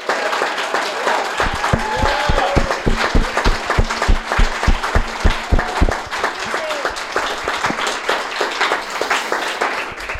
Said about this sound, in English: And just a round of applause for that, because almost none of us would be here if not for that.